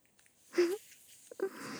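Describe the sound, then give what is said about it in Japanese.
Fizzing cream rubbed over the ears during a gentle ear massage gives a soft, steady crackling hiss, interrupted by two brief breathy swells, one early and one near the end. “シュワシュワしてるね。”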